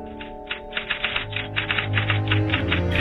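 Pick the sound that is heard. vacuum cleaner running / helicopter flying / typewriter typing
typewriter typing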